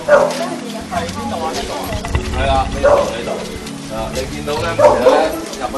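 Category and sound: animal, many dogs barking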